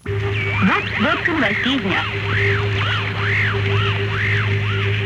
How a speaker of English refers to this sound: For one thing, we knew that the Voice of America was getting results. Knew it because of the expensive and elaborate measures the Russians took to jam those broadcasts, to ring down a curtain of static. Listen.